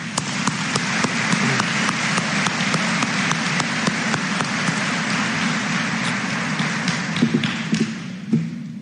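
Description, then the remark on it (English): At a Fort Recovery Local Schools graduation ceremony, standing graduates applaud their families steadily, a dense wash of clapping with sharper individual claps poking through, holding at an even level for several seconds before a few scattered claps near the end. “I'd like you to turn around and face your families and give them a round of applause as well.”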